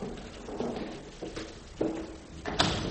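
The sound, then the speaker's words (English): The fourth door on the left on the ninth floor is opened: a few soft clunks and a sharper knock near the end, quiet and muffled, with low rumbling in between and no voices. “Fourth door on left, and I hope they're right.”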